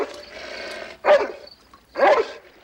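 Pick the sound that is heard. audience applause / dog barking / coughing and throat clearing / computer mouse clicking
dog barking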